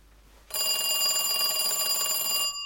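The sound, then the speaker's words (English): A telephone bell rings loudly, a bright continuous metallic jangle that starts abruptly and lasts about two seconds before cutting off, with no voices. “When we got a phone call from the record label saying that they're playing your songs on the radio in America, you need to go over to America.”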